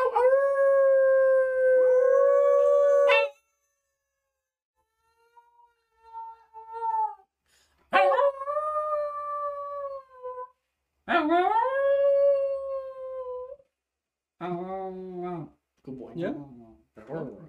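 dog howling

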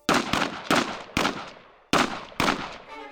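gunshots

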